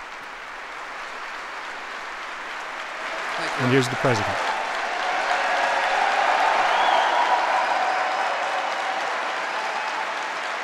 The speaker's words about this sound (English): Here comes the president approaching the podium at the train station in Cincinnati, to the applause of the crowd that's gathered there.